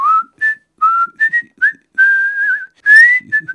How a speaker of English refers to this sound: 2 days later, Henry Tudor left Vannes with just 5 servants, saying he was going to meet a friend, presumably whistling casually.